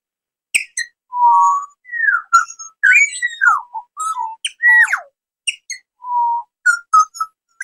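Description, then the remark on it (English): Four small birds perched on a picnic table sing, a lively run of clear whistled notes, sliding tones and quick high chirps in short bursts with brief pauses between, loud, with no talking. “So four birds landed on the table I'm sitting at. And they're singing to us and they're listening to us right now.”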